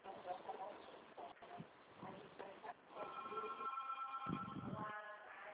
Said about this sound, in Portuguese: Querida, chegou uma notificação aí pra você, olha aí.